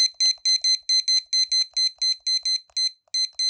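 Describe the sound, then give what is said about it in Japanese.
A kitchen timer chirps through a quick run of about sixteen short, high beeps, clear, with a brief pause near the end as buttons are pressed to set it to 20 minutes. No one speaks. “あと、キッチンタイマーも持ってきてるので、ちょっとこれも先に合わしときます。”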